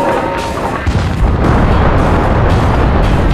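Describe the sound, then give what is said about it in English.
A loud, sustained booming roar of a 30mm tank cannon shell exploding into the second story of a brick ranch house in São Paulo, dense and rumbling throughout, with crackling debris-like texture and several heavier surges as the blast continues. “A 30mm shell burst from the stubby barrel, drilling into the second story at the front of the house.”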